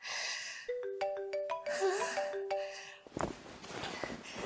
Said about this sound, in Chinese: 嘘，爸爸打电话过来了。